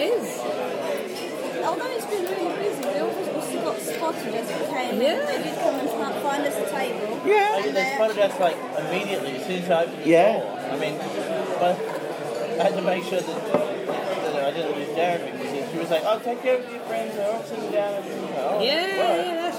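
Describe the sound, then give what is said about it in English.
Busy indoor crowd chatter: many overlapping voices forming a dense, steady murmur at an even, fairly loud level throughout, with no single speaker standing out. “Yep, so as you can hear, folks, it's quite busy in here.”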